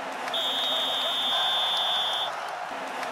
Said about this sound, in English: Okay, thanks for that referee's whistle.